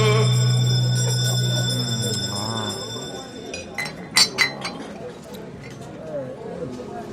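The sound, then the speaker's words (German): A bell rung to start the last round rings out with bright, sustained metallic tones that slowly fade, followed by a few sharp clinks and light rustling in the latter half. “Egal, wir lassen die Glocke läuten und gehen in die letzte Runde.”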